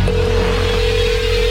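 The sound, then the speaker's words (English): A telephone ringing tone heard down the line while a caller tries to get someone on the line, a single steady electronic tone that holds unbroken and fairly loud over a low hum, with no one speaking. “You hear the ringing.”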